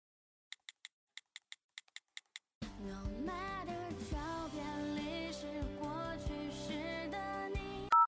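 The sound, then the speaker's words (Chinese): About ten quick, evenly spaced phone keypad beeps as a number is dialed to call a friend, followed by a loud ringback melody playing steadily until the end, with no one speaking. “哎呀，要不我给小燕打个电话吧，和她聊聊天。”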